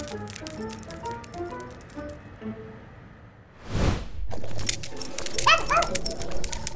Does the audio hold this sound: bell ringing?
no